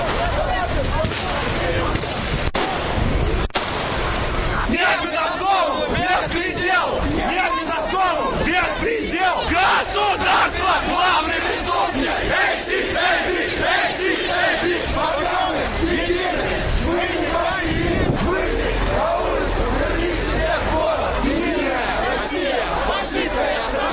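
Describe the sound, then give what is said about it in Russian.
A crowd of about 200 protesters marching along Tverskaya Street in central Moscow toward Belorussky railway station chants slogans in unison, voices rising in loud rhythmic shouts over a steady roar of mingled cries and babble that continues throughout. “Они моментально развернули баннер «Нет беспределу», после чего перегородили улицу и двинулись по ней в сторону Белорусского вокзала, скандируя свои лозунги.”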